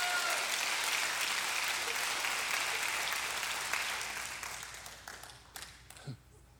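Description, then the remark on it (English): An audience gives God a hand clap of praise, breaking into dense, sustained applause that fills the room, then gradually thins out into scattered individual claps before fading away. “Give God a hand clap of praise in this place if you believe him by faith.”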